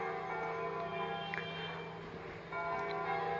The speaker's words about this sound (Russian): Это звонят, наверное, колокола в церкви, построенные французами в центре Ханоя.